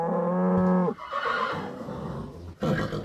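A horse whinnies loudly, a sustained harmonic call that wavers and drops off, followed by snorting breaths and a second short burst near the end.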